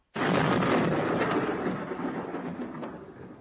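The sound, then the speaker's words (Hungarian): A heavy howitzer artillery blast from batteries at a country's border erupts suddenly and loudly, then rolls on as a broad, rumbling roar that slowly fades over a few seconds, with no voices. “Nem a menny dörgött, hanem a mi tarackütegeink országotok határán.”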